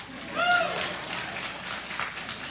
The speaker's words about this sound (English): That's all right. We'll take a little applause. We'll just take it.